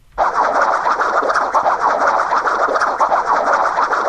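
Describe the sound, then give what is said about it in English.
A video game sound effect for a coconut obstacle: a loud, steady rattling, scratchy noise that starts abruptly and rolls on without a break for about four seconds, with no voices. “A coconut. You can either hit these with your weapons or duck under them.”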